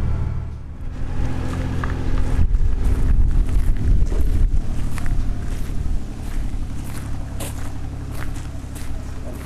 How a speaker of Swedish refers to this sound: Så här en dag i juli är Själö en vacker och lugn ö. Det enda som bryter tystnaden är traktorn som fraktar varor från förbindelsebåten till universitetets huvudbyggnad, det gamla sjukhuset.